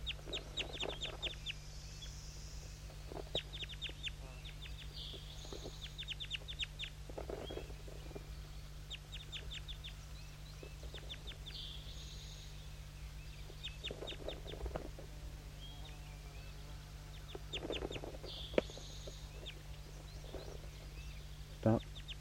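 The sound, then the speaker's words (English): Several birds, including birds 5-3 and J8 and a wild juvenile, cluck in repeated short bursts, with sharp, rhythmic calls layered over a steady low hum throughout. “Start recording all the birds.”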